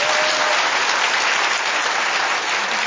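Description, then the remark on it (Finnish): Steady, dense, loud applause from an audience for Matti Väisänen, the first general secretary of Kansanlähetys, a continuous wash of many hands clapping with no voices on top. “Hän saisi aplodit Matille.”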